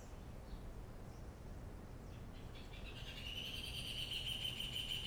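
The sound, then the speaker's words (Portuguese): Birds chirp faintly over steady outdoor background noise, then a sustained, high trilling song rises in the second half and carries on to the end. No one speaks. “Yes, they say, yes. Sim, my bird friends.”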